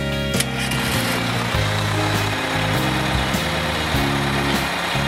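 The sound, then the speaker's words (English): A school bus engine rumbles steadily, a deep throbbing drone with shifting low tones and a constant noisy hiss, with no voices over it. “It's the school bus.”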